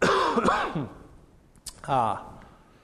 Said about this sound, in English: And so, excuse me as I cough again.